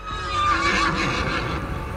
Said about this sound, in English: It made an almost musical whinnying sound, shook its silver mane, and trotted back towards the woods it had come from.